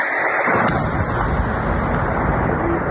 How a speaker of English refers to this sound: Okay, here we have another person in Russia that is recording the Storm Shadow missiles hitting the ground or the targets. He's pointing down the road.